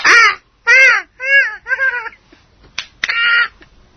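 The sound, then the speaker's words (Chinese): A pet parrot squawks loudly, five harsh, raspy calls in an uneven series with short pauses, plus a couple of sharp clicks before the last call. No one speaks. “唔係，係你隻鹦鹉啊，未死，重伤啫、嗯啊。”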